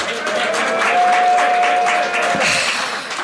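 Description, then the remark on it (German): A crowd claps and cheers steadily for a few seconds, a loud, dense wash of applause with voices mixed in and a brief thin whistle-like tone partway through. “Ich glaube, ihr müsst ein bisschen mehr anfeuern.”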